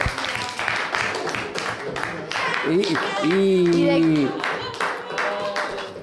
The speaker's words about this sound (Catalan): Hoy es mi cumple. Hoy es tu cumple. Un aplaudiment.